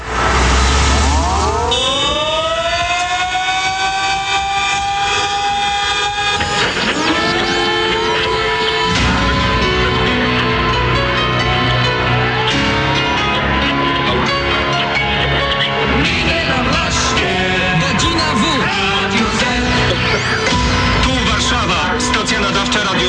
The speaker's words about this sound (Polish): Punktualnie o 5 po południu w Warszawie i w wielu innych miastach zawyły syreny. Zatrzymały się samochody, a ludzie przystanęli w milczeniu.